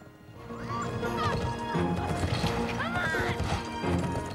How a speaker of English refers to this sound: They spur their horses on to a gallop. The horses' hooves kick up dust as they gallop along.